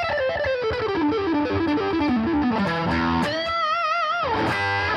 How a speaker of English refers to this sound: I actually use less gain. This is like everything control is wide open. You know, if I split the coil. That's still the same gain as. You know, it's all at that same level. This being the distortion pedal.